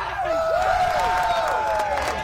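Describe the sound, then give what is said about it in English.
A loud crowd cheers and yells at a Friday night football victory celebration at Skyway Park in Tampa after a school team's 42-6 win completing an undefeated season, many overlapping voices rising and falling in a dense, continuous roar that never quite settles. “That loud victory celebration soon quiets down as the players and coaches march midfield to shake hands with their opponents.”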